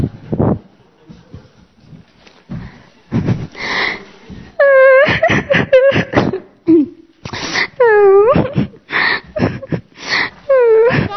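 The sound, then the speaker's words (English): Loud, exaggerated sobbing from a character called the boss: several wailing, quavering cries that bend downward in pitch, broken up by sharp breathy gasps and sniffles in a fast, uneven rhythm. “Don't cry, boss.”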